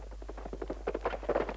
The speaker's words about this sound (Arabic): اسمع يا خالد، ركض جواد. نعم، هذا فارسنا أتى من قبل الروم على ما أظن، ولكن ما الذي أتى به في هذا الغسق؟